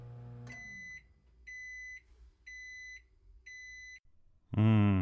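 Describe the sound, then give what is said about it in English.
Four evenly spaced electronic microwave oven beeps, each about half a second long and clear, followed by a loud burst of another sound at the end. “Yeah, there's that beep.”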